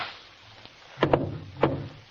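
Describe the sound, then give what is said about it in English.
Sharp gunshots crack out as Watson fires: a quick pair, then a third a half-second later, each loud and abrupt with a short ringing tail over a low, steady background hum. “Watson, if you hadn't shot first...”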